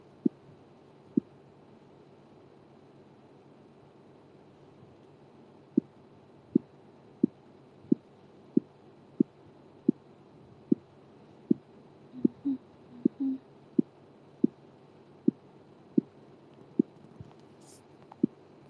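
A steady, muffled thumping pulses roughly once a second, like a heartbeat, pausing briefly near the start before continuing evenly over a faint low hum, with a few soft clicks mixed in.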